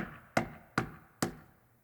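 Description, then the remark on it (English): Three evenly spaced knocks rap on a wooden door, each a sharp, solid thud with a brief ring-off, clear with no talking. “And I heard a knock.”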